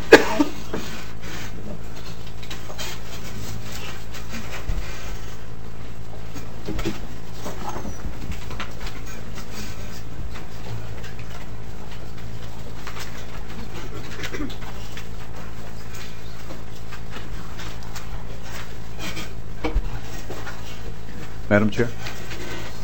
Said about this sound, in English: Maybe the people could find, who maintain the building, could find some WD-40. We got some very squeaky chairs.